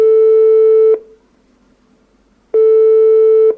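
A telephone ringback tone heard while calling: two loud, steady electronic tones about a second each, separated by a pause of silence, with no voices.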